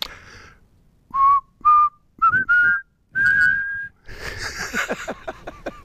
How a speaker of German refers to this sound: Oh, das Pfeifen war beim letzten Mal besser.